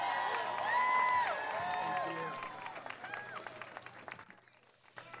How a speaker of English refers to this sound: So thank you so much to all of our electeds. We wouldn't be able to do this without you. So let's give them all a huge round of applause